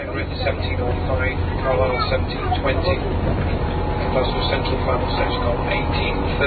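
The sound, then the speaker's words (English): A tinny, muffled public-address announcement on a train running a few minutes late, giving connections to Edinburgh Waverley from Preston, plays over the steady low rumble of the moving train, the voice continuous and fairly loud against the onboard noise, with a man speaking over it. “is an announcement on the train”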